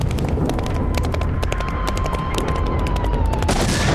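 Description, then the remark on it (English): Gunshots crack out in an irregular barrage, sharp reports arriving one after another with short uneven gaps, over a constant low, rumbling din of battle noise. “We don't know, but it takes them a little while between shots.”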